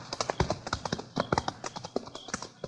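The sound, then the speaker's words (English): A horse's hooves clip-clop in a steady walking rhythm, a string of sharp knocks repeating evenly throughout with no voices, as the rider sets off toward Salt River. “Okay, I'm on my way. Quiet, like. Come on, horse.”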